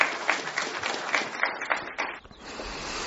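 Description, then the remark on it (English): A crowd at a County Council meeting applauds a citizen's comment: dense, steady clapping with a few sharper claps standing out, fairly loud throughout, then thinning out and fading toward the end. “And the crowd applauded.”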